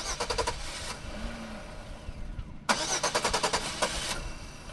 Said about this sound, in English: The car often won't start on the first try, and sometimes it just stops in the middle of the road without warning.